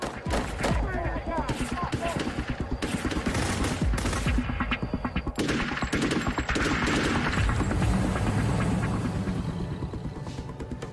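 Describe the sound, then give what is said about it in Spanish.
A long, relentless volley of gunfire: more than 50 rounds fired by masked gunmen at a house during a home-invasion robbery. Dozens of sharp cracking shots come in rapid, uneven bursts that barely pause across the whole stretch, loud and dense throughout. “Dispararon más de 50 rondas hacia la casa.”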